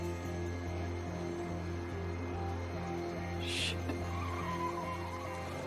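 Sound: car approaching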